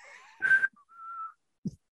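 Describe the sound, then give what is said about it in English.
Someone whistles a few short notes: a wavering tone, a louder breathy blast, then a steady, held mid-pitched note, with a soft low bump at the very end. “But you just put your lips together and blow.”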